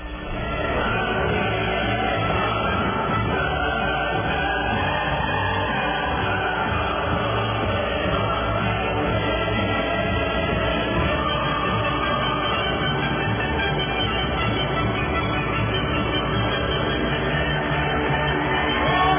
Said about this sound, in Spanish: Así que bueno, un aplauso por la lucha contra la corrupción.